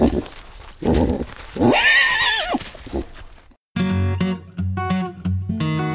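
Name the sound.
horse neighing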